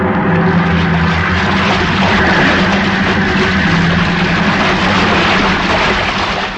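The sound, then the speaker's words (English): A big freak wave crashes over a ship's port bow in an otherwise calm sea: a loud, sustained roar of rushing water with a deep rumble underneath, holding steady for several seconds without letting up. “Wait, look at the size of that wave. Huh? The great Jehoshaphat. We're going to take it on the port bow.”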